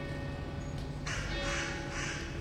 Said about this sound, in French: Oh, oh, oh, oh. Voilà, je me mets en contact avec les corbeaux.